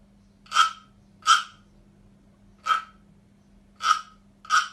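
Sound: frog croaking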